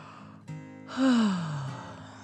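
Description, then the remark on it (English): A voice gives a long, exaggerated yawn, performed as a fire truck named Frankie yawning: a breathy intake, then a drawn-out vocalized sigh that slides downward in pitch and fades. Clear, with no other sounds around it. “Then the fire truck yawned.”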